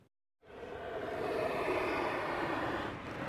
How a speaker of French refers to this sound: Vous entendez? C'est le vent de Valparaiso. C'est le vent de Valparaiso qui infla de l'air nos poumons. Il remplit d'air nos poumons.